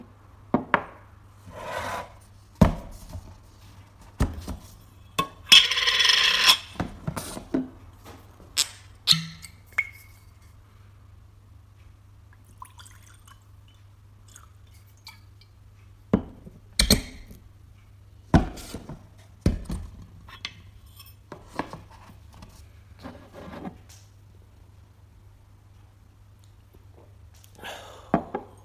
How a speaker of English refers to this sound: This is Talisker Sky being poured, and I particularly like the pop of the cork.